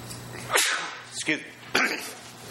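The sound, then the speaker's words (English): Three sharp sneezes burst out in quick succession, each a loud, breathy explosion with a hissy burst, spaced about half a second apart. “Just making sure I didn't sneeze on the communion.”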